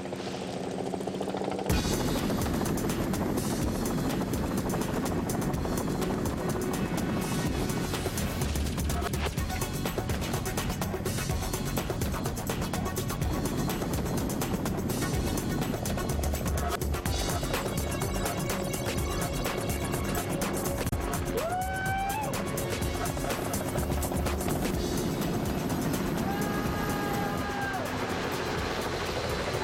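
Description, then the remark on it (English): A rescue helicopter roars overhead above dense jungle, its rotor chop steady and loud through a thick wash of engine and wind noise that barely changes for the whole stretch. “Here comes the chopper!”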